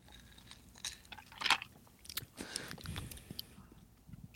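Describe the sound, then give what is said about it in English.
Someone takes a sip of a creamy, cocoa-flavoured pre-made cocktail on ice: a few quiet, wet slurping and swallowing mouth noises with small clicks, no talking. “There's definitely, I got to take another sip.”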